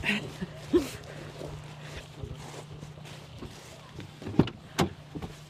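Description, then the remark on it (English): People climb into a car in the rain, with door clunks and rustling movement over a steady low engine hum; sharp knocks near the end suggest doors shutting. “Now it's raining. Should we hop in the car?”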